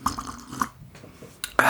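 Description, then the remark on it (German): Someone takes a few small, wet sips of mulled wine from a cup, followed by a short pause and then a louder rustling clatter near the end. “Ich brauche noch einen Schluck Glühwein.”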